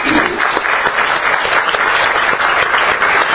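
A crowd applauds steadily, many hands clapping in a dense, continuous wash of sound that stays loud and even throughout, with no voices standing out.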